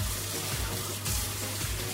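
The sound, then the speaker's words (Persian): Water sloshes and splashes steadily in a large container of cold water as someone washes pomegranates and separates their seeds, with soft irregular dabbling noises over a constant low hum from a wall-mounted boiler in the background. “حالا این صدایی که شما میشنوید صدای آبه که من دارم انار.”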